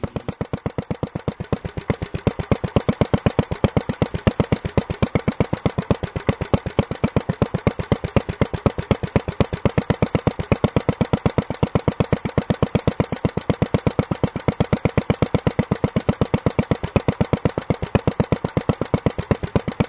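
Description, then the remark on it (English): A single-cylinder engine on a walk-behind garden tractor lopes steadily, its rapid, even firing pulses thumping on and on for the whole stretch, with no voices. “So the sound of that single-cylinder engine loping away is a distinctive sound, and one that makes a music of its own.”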